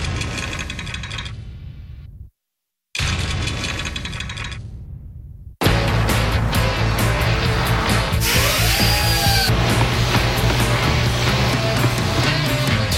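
Workshop tools grind and whir in two bursts as an old chainsaw is torn down to get it running again, separated by a brief silence, then give way to a dense, continuous mix of buzzing, clanking and mechanical rattling, with no talking.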